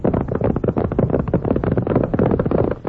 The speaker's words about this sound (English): Why, anyone knows that's horses a-galloping. Sure thing. Out west you hear that sound all the time.